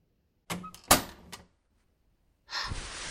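A door is opened: a quick burst of clicks and knocks as the latch and handle work, a short pause, then a sustained scraping swish as it swings, with no voices.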